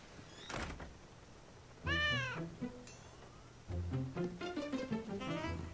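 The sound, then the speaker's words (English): Gilbert the cat meows loudly, first in a rising-falling wail and then in a longer, wavering cry, with a dull thump just before, during a rainstorm. “Gilbert's a scaredy cat.”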